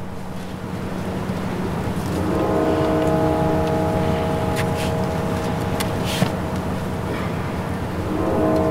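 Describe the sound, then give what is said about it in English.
Church bells ring out at the National Cathedral as a former president's casket is about to be brought inside, in long, overlapping tones that hum and sustain over a steady wash of outdoor noise, swelling after a couple of seconds and holding loud through the end. “We're hearing some bells chime.”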